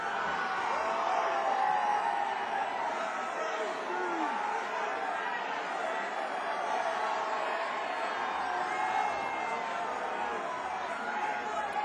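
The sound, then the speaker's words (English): A concert crowd shouts song requests all at once, a dense, steady roar of overlapping voices with no single shout standing out, sustained at an even loudness throughout. “It's hard to decipher any individual song.”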